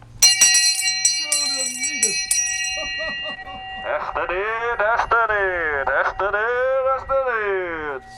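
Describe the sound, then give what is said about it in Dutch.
A bicycle bell rings once with a bright, lingering metallic tone. Its ringing fades slowly while a voice comes in over it, rising and falling in a sing-song way. “En op Schiemerzeeg heb je mijn bel op een fiets.”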